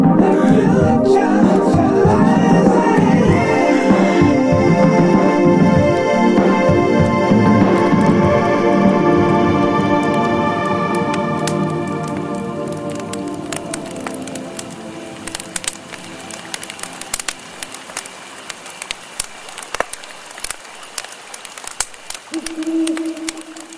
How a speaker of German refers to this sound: Ich wollte endlich einmal den Jingle spielen. Du hättest mich muten sollen, das war jetzt reflexartig. Ach, ja genau, also man hat es jetzt doppelt gehört.